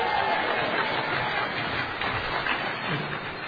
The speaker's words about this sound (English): Don't applaud too long. We only have 20 minutes.